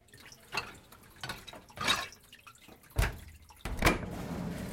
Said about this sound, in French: Le bruit des gouttelettes remplace à l'instant celui des déferlantes.